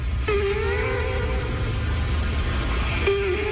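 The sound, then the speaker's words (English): A cat snoring right up against a microphone: a steady, low, rough rumble runs throughout, with a thin whistling tone that glides and fades, then returns near the end. “This is a cat snoring, and they've put a microphone up to the cat, and that is a cat who's snoring.”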